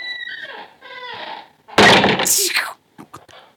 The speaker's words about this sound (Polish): Upuściłaś stolik. Sam się wyśliznął.